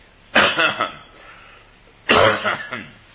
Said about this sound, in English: Y'all have to excuse me this morning. I've got a little cough that has irritated my neck, to say the least.